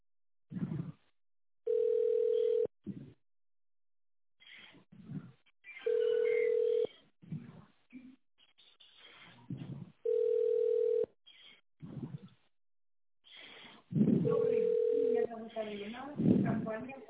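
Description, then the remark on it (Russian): A steady, mid-pitched telephone ringback tone on a call to the company Light sounds four times while waiting for an answer, each burst about a second long and spaced roughly four seconds apart, with muffled voice-like line noise filling the gaps. “Если вы не знаете добавочный номер абонента, дождитесь ответа в секрет.”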